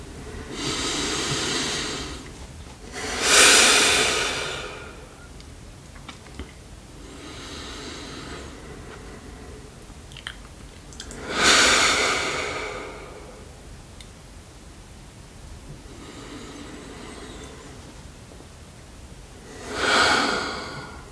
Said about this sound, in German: Und genau, und bevor ich jetzt einmal gonge, nehmen wir einfach irgendwie so drei tiefe Atemzüge gemeinsam.